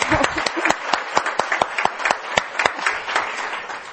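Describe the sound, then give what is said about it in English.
An audience applauds steadily in acknowledgement of congratulated 25-year and 35-year honorees, many hands clapping in a dense, crackling wash with sharper individual claps standing out in an irregular rhythm throughout. “So congratulations to both our 25-year and 35-year, and I think we should acknowledge some of the clap.”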